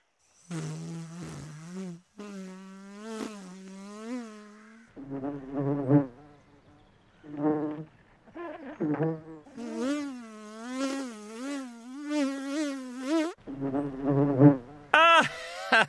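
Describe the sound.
A voice imitates a buzzing wasp in a series of nasal, wavering buzzes of varying pitch, broken by short pauses, fairly loud, with no words spoken.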